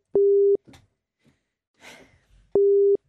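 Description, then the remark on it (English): A phone ringback tone heard from the caller's end: two steady, loud electronic tone bursts about two seconds apart, with faint rustling and small noises in the gap between them. “She better pick up now.”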